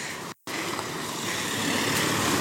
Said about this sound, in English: Oh, there's a truck thing coming towards me. Gotta get on the bank again. Whoa, slow down,